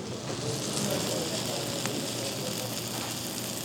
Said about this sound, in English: And it all comes out on this steaming hot platter. The whole thing smokes up the room and crackles as it comes towards the table.